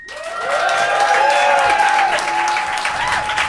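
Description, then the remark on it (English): A live audience in Phoenix, voting on a debate result by applause, breaks into sustained applause: dense clapping with some cheering and whistles mixed in, loud and steady throughout. “So instead, I'm going to call upon our live Phoenix audience to make the decision for us.”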